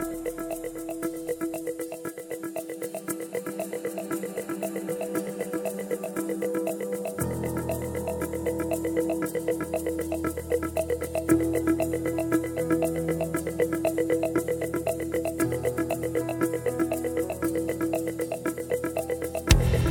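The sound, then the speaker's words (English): A rock song from the Trailer Park Boys movie soundtrack plays loud and steady, with a driving drum beat and guitars; deeper bass and fuller instrumentation kick in a few seconds after a lighter opening, and no vocals are heard. “Okay, here's a song off of the Trailer Park Boys movie soundtrack.”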